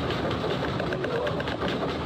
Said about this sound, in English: The P wave arrives. So these are what dogs pick up. You hear a scratch, and that's the S wave arriving, and then the rumble.